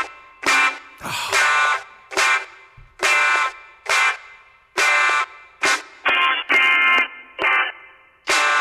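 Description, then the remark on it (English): A heavily distorted electric guitar hammers out loud, buzzy chord stabs in a choppy stop-start rhythm, about a dozen short bursts separated by abrupt silences, with no voices. “you want to hear one of the gnarliest guitar tones ever recorded in the history of recording?”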